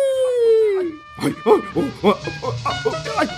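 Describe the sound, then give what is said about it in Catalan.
A dog gives a drawn-out whine that slides downward, then breaks into a quick, steady run of loud barks lasting a couple of seconds. “Quan fugia, va ensopegar amb el gos i aquest li va mossegar una cama.”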